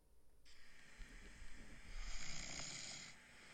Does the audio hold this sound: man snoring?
yes